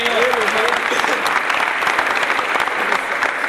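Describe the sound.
An audience breaks into steady applause, dense rapid clapping sustained at an even loudness for several seconds, with faint voices and a brief cheer mixed in at the start.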